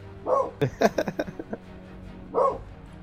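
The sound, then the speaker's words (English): A female dog barks at a dog she sees outside, in a quick run of sharp, medium-loud barks, about half a dozen in rapid succession, bracketed by a couple of longer whining yelps, with a low hum underneath. “I think she sees a dog outside.”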